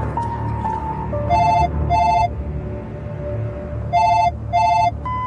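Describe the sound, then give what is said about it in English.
Todd Halbert's office telephone rings in two double-ring bursts separated by a pause, clear, with a faint steady tone and low hum underneath and no one speaking. “Hi, this is Todd Halbert's office phone. I'm not available, but I want to hear what you've got to say.”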